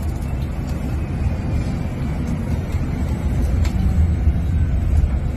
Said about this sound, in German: Der Bus ist einfach wesentlich leiser und damit eben noch komfortabler unterwegs. Und wer mal hören möchte, wie leise der Bus ist, bekommt jetzt noch eine kleine Hörprobe.